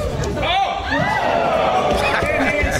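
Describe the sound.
A large crowd roars steadily, with a collective groan rising and falling in the first second, then continues as a dense, loud wash of overlapping voices and shouts.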